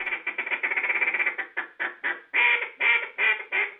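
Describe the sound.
A duck call is blown by the reigning world champion duck caller, a judge at a duck calling competition, in a fast run of rapid quacking notes that slows into longer, loud, evenly spaced quacks, clear with no talking.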